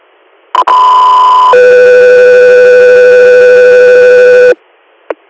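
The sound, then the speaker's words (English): Loud radio dispatch alert tones sent to an air unit for a scene call in Mansfield, Tioga County, Pennsylvania: a short higher tone followed by a long, steady lower tone lasting about three seconds, bracketed by brief clicks and a squelch burst at the end. “got 3 air, stand by for tones.”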